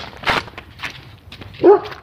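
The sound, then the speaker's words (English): A dog barks a few times in short, uneven bursts, the last bark the loudest and most tonal, with a slightly whiny edge. No voices accompany it. “Bark, bark, woof, woof.”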